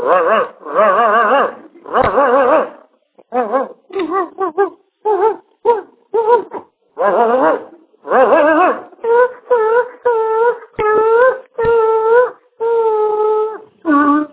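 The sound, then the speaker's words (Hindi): A voice imitates two dogs fighting: a loud run of snarling whines, yelps and wavering howls in short, choppy bursts, with no other talk. “तीसरा कुत्ता वाला, दो कुत्ते के अंदर लड़ाई हो रहा है।”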